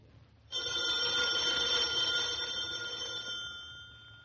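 A telephone bell rings in one long, continuous metallic burst of about four seconds, bright and fairly loud, easing off slightly near the end. No voices accompany it.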